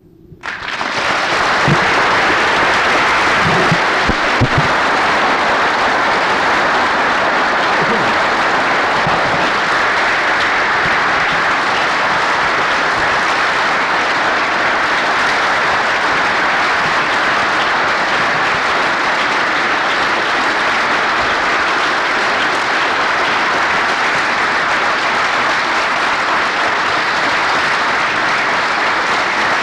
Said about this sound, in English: And so, Dr. Bethgay and Mrs. Bethgay, we do applaud you this evening and thank you for what you've done.